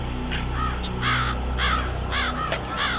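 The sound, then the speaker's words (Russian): A crow caws about five times in a steady, evenly spaced series, harsh, over a low continuous hum in the background. “Вороны на кочках, сидящие в ряд, со скорбью взирали на мрачный обряд.”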